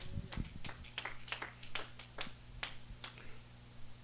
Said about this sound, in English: Give God a hand clap.